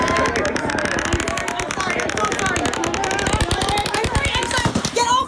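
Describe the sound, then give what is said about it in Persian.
Rapid automatic gunfire from the Las Vegas concert shooting, a 64-year-old man firing from the 32nd floor of a hotel over a crowd of 22,000, rattles in long, continuous bursts of closely spaced shots, loud and echoing, with crowd noise and shouting voices mixed underneath throughout. “یک مرد 64 ساله با 10 شاجور گلوله از طبقه 32 یک هتل بالای جمعیت 22 هزار نفری شلیک کرد.”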